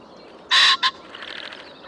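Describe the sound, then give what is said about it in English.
A male pheasant displaying in the Irish countryside gives its loud, harsh two-note crowing call, a longer raspy blast then a short clipped one like a double cough, followed by a softer, rapid fluttering whirr of vibrating wings. “that call the male makes when he's displaying that very distinctive sound of the Irish countryside there”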